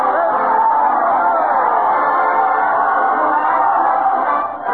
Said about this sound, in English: Listen to that proud cheer